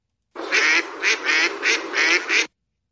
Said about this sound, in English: That sounds like ducks in the air. You know what? I didn't ask them if they were going to be in the air or not, but those are ducks indeed. They could have been paddling for all I know.